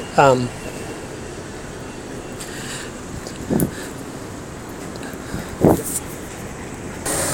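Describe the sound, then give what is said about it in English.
A commuter bus idles and rumbles as it arrives, in a steady wash of street noise, with a few short, high squeaks and brief murmurs from groups of people walking by. “here comes the latest contingent from Commuter Express Bus.”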